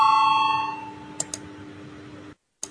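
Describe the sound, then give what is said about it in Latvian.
A voting bell in the Latvian parliament rings before a vote on a deputy's proposal, a bright, sustained electronic tone that fades over about a second, followed by a few short sharp clicks and a brief silence. No one speaks. “Lūdzu zvanu, balsosim par 35. deputāta Valaiņa iesniegto priekšlikumu.”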